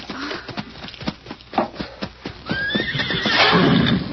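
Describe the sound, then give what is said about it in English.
A horse whinnies loudly in the dark, its rising neigh sweeping upward, while hooves clip-clop in a quick, uneven rhythm throughout the scene. “Here's my horse.”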